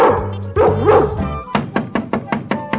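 A dog yelps and whines in rising, sing-song cries, then breaks into a quick, steady series of about seven sharp barks, loud, with no talking.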